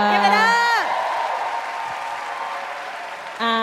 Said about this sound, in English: Clap it up